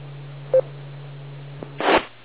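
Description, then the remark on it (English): As someone calls a cell phone, a short electronic keypad beep sounds over a steady low telephone hum, followed by a faint click and a brief noisy burst near the end. No one speaks. “call my cell phone.”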